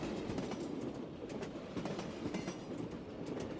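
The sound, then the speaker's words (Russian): Steady rumble of a moving train carriage, its lights still off in the dusk, with a regular clickety-clack as the wheels pass over rail joints, sustained and fairly loud throughout, with no voices. “Свет все не включали, и я, убаюканный стучащими на стыках вагонным сумраком, задремал.”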